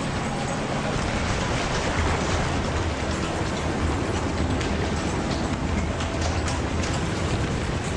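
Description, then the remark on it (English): Rain starting to fall at sea as the weather closes in, a dense, unbroken hiss with a low rumbling undertone, loud throughout, with no voices. “The weather's closing in as well now. It's starting to rain.”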